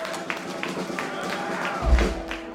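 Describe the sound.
Steady crowd applause at a live music show, a dense wash of clapping with some cheering and voices mixed in, continuing throughout at a fairly even loudness, with a low thump near the end.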